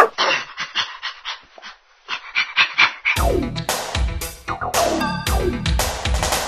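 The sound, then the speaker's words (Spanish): An excited dog whimpers, yips and pants rapidly, then breaks into a run of loud, eager barks and high whines, the sounds tumbling over each other without pause. “Hoy en Tecnociencia descubriremos por qué los perros se vuelven locos de felicidad cuando llegamos a casa.”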